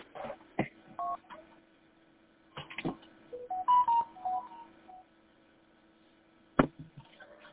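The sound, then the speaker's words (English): Telephone keypad touch-tone (DTMF) beeps from pressing the pound key, heard over a phone line: short presses mixed with clicks and a steady low hum, with a sharp click near the end and no one talking. “And I think what I ended up doing is I hit pound.”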